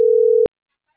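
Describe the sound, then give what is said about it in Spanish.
A single steady telephone busy tone sounds loudly for about half a second, then cuts off abruptly into silence, with no voices present. “Ya no tiene teléfono.”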